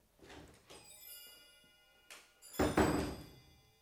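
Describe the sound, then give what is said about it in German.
A few light clicks and taps lead into a solid thump of a door swinging shut, followed by a brief rattle as it is locked, with no voices. “Ich gehe jetzt und sperre zu.”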